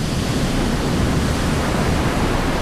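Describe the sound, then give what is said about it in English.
A loud, continuous roar of a huge surging wave crashing against rocks by a lighthouse door, dense and steady throughout with no distinct breaks, with no voices. “Tiffany managed to haul Roland across her shoulder and, staggering across the rocks, made it to the lighthouse door as the water crashed behind her.”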